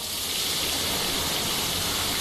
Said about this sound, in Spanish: Y hoy vamos a volver a escuchar el sonido del agua, el sonido de las norias de Abarán.